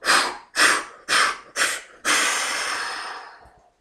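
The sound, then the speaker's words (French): A person doing a guided breathing exercise: four short, sharp breaths in quick succession, then one long, forceful exhale that gradually fades out. The breathing is fairly loud, with no talking. “Et une dernière fois, inspiration lente, profonde, sans forcer. Puis tu souffles fort.”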